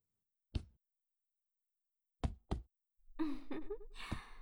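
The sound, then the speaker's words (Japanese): Light, dull knocking taps from a woman wearing boxing gloves: a single tap, a pause, then a quick pair, followed by rustling noise, a soft murmur-like tone and one more tap. “彼女、睾丸を軽くノックし始めましたね。”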